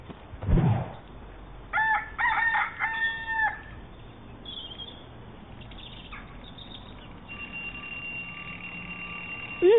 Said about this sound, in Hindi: ये पौने सात का अलार्म किसने लगा दिया इसमें?